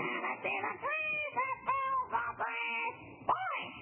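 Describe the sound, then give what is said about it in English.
A parrot squawks and chatters in a quick run of shrill, warbling cries that swoop up and down in pitch, several in a row and fairly loud, with no one else talking. “Oh, Jack, you're arguing with a parrot.”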